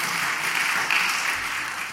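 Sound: applause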